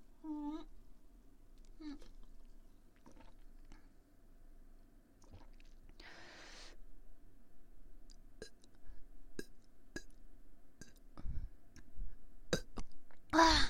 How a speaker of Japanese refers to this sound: ちっちゃいゲップが出た。なんか飲んですぐだとなんか今気づいたんですけど、なんだろう、炭酸水がおえって出てきちゃうかもしれないっていうことに気がつきました。